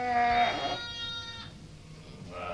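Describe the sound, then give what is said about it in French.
A ewe of the Île-de-France breed gives a few soft, low-intensity maternal bleats while licking her newborn lamb after giving birth, one running into the next, with a brief quiet gap before another begins at the end. “Elle accompagne ces léchages de bêlements maternels de faible intensité et de stimulation tactile de grattage que l'on voit ici chez une brebis de race Île-de-France.”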